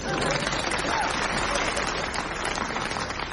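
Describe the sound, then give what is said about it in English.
Seals in a seal tank clapping and slapping their flippers, a dense, continuous patter of wet slapping and clapping in quick succession, steady in loudness throughout with no clear speech. “She seems to have landed in the seal tank where their eagerness to applaud her efforts is unfortunately resulting in her being slapped to death.”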